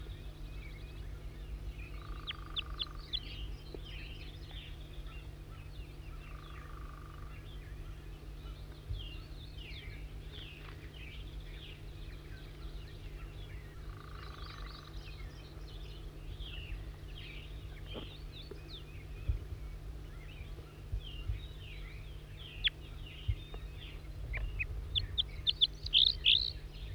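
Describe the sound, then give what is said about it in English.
Wild birds chirp and tweet steadily throughout, with repeated high, quick song phrases over a low, constant hum. A few sharper calls stand out toward the end. “Wild bird again.”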